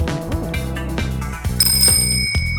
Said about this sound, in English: Wait for the bike bell or keep running.